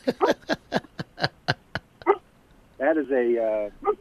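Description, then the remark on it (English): A playful female labradoodle lets out a quick run of about eight short, sharp yips, then pauses before giving a long, wavering whine and one last little yelp, fairly loud. “Labradoodle. A labradoodle.”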